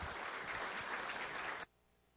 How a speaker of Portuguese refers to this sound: Neste momento, a mesa diretora de 2022, então, irá realizar a entrega do título de cidadão formosense ao general de brigada Moisés da Paixão Júnior, comandante de artilharia do Exército Brasileiro. Pedimos a todos uma salva de palmas.